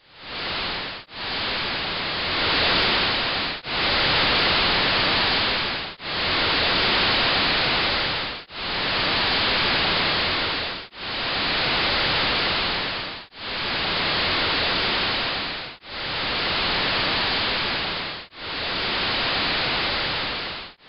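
Infrasound from Cotopaxi volcano in Ecuador, sped up into audible range: a loud, steady series of about nine broad, hissing whooshes, each swelling and fading every couple of seconds like slow breaths or waves, with no voices.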